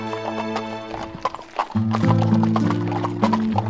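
Steady clip-clop of a general's horse trotting slowly, with a horse neighing over the rhythm and a low sustained tone underneath throughout.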